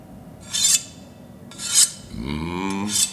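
A blade is sharpened with three harsh, hissing scrapes spaced about a second apart, while a low humming drone with a rising pitch swells up between the last two strokes.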